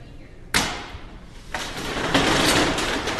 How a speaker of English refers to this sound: At 8 a.m. sharp, the window flew open, like the curtain going up on a play